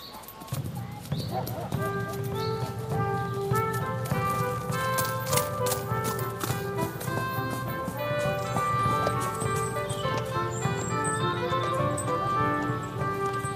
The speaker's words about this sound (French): Ça y est, nous sommes sur la route et nous entendons le pas, les sabots de Destinada, votre jument.